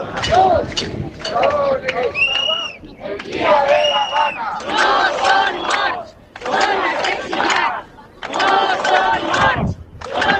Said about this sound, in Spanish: Estos son los gritos que han tenido que escuchar los líderes del PP europeo cenando esta noche allí en Valencia.